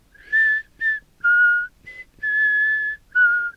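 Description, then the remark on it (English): A ship's lookout up in the rigging whistles the nursery-rhyme tune Ring Around the Rosie, six clear notes of varying length with short pauses between, fairly loud, with no talking. “It took about 6 notes for Midge to realize he was whistling Ring Around the Rosie.”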